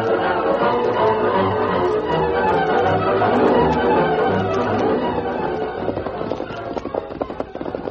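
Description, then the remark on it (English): Galloping horses' hooves, the Lone Ranger and Tonto riding at night to the Bain ranch house, beat out a fast, steady clatter over a dense, loud wash of sound, the hoofbeats growing more distinct and choppy toward the end. No one speaks. “Tonto and the Lone Ranger soon reached the Bain ranch house and reined up.”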